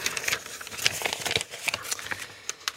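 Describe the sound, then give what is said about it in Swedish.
Paper rustles and crinkles as pages in a binder of quiz questions are flipped to question number 2, a quick run of soft crisp swishes and taps, with no voices. “Vilket nummer vill du att jag bläddrar fram åt dig?”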